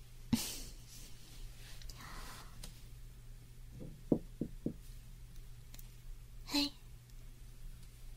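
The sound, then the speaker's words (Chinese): A quick series of about four sharp knocks on a hotel room door, against a quiet background with a low steady hum and a few faint rustles and breaths. “Hello， 大家好，我现在已经到了酒店门口了，我现在要敲门。”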